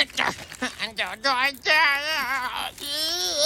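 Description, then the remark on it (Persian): A child's voice strains out whiny, wavering fake-crying sounds in short bursts, then drawn-out wails, fairly loud, with no real sobbing behind them; the child is pretending to cry. “داری تلاش میکنی گریه کنی یا داری تخم میذاری؟”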